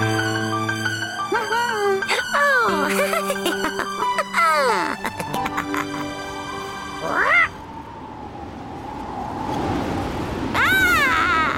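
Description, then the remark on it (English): A cat meows and yowls repeatedly, with harsh spitting hisses breaking in between, loud, over sustained musical tones in the background. “But how the witch wailed and how the cat spat when the wind blew so wildly it blew off the hat.”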